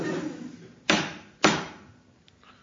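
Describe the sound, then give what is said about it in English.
Three sharp, loud knocks of a spoon banging on a table, each hit ringing briefly before fading, spaced about half a second apart with no one talking. “I was banging me spoon on table.”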